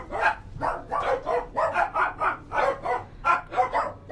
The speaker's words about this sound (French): Entre chien et loup, elle entendit des chiens, justement, se mettre à aboyer.